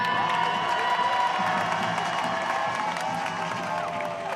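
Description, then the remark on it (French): A large outdoor crowd at a march along the grands boulevards in Paris cheers and claps continuously, with whoops and shouting voices rising over steady applause, loud throughout. Organizers counted 100,000 marchers; police counted 36,000. “On peut s'applaudir, c'est un grand succès, non ?”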